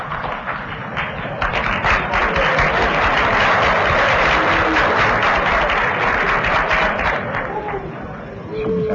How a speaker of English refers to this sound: Because of the briefness of the time, let's cut out the applause.